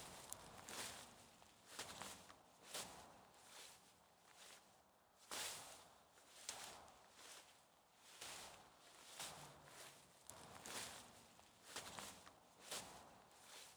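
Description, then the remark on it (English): Steady footsteps crunch up a path at an unhurried walking pace on soft, dry ground in bright sunlight, each step a soft scuffing crackle, clear, with no voices present. “You smile, close your eyes, and keep treading onwards up the pleasant path into bright sunlight.”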